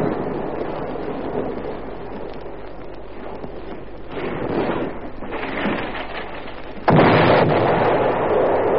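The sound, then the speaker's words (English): Heavy naval gunfire from a ship's bombardment, called in by a naval bombardment officer by wireless, booms and rumbles over a constant wind-blown roar, with a sharp, loud blast near the end followed by lingering rumble. No one speaks. “They've got a mighty kick, those naval guns.”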